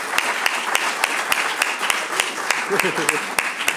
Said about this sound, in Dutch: En we wensen hem daar toch ook eens voor te bedanken, eigenlijk. Met een applaus, denk ik dat dat wel juist is.